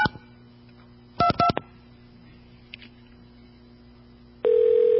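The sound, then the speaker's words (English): A short burst of touch-tone dialing of a phone number, with three or four quick dual-pitched beeps in a row, followed by quiet line hiss and then a steady phone-line tone that starts near the end. “Here's another phone number.”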